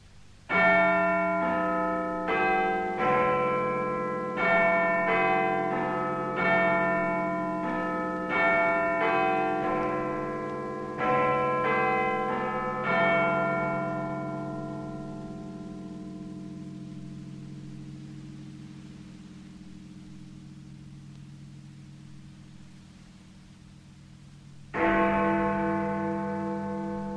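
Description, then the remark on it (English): Big Ben's bells ring out alone on BBC Radio before the 10 o'clock news: a rapid run of chiming quarter bells, then the deep hour bell strikes with a long, humming decay before sounding again. “After Big Ben, the news read by Sheila Tracy.”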